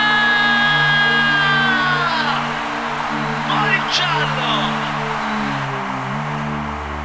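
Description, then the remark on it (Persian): An audience screams loudly and continuously after being asked to scream if they had a very good time tonight, shrill high voices piling into a dense roar that holds for several seconds over a steady low humming tone. “اونایی که بهشون خیلی خوش گذشته یه جیغه بلند.”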